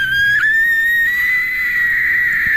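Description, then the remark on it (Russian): A voice holds a steady, piercing high-pitched squeal, imitating the whine of a dental drill. The tone dips briefly near the start, then creeps slightly upward and stays loud for a couple of seconds. “Попищать, может? Попищать, да, легко.”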